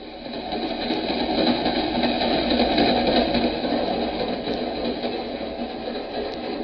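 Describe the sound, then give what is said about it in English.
An express subway train rumbles along at speed, a steady, dense mechanical roar with a faint rattling texture that holds at an even, fairly loud level throughout, with no voices. “Maybe the train would crack up or stop one station too soon or...”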